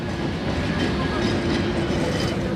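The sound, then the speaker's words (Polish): A passenger train rolls along the rails with a steady, continuous rumble and faint rattling clatter, filling the whole moment without any voices. “W pociągu do Walii spotkałem miłośnika kolejnictwa, ale też i miłośnika rowerowych wycieczek,”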